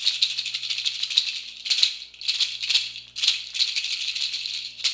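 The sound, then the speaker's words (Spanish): A seed-shell chachas rattle shaken steadily, producing a bright, dry, dense clatter with rhythmic accented shakes roughly every second, fairly loud and alone without any talking. “Chachas.”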